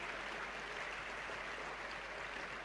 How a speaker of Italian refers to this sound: ci vorrà il contributo sicuramente di tutti quei valorosi insegnanti ai quali prego di indirizzare un applauso, che hanno reso possibile questa ricerca, che ci hanno dato questi risultati.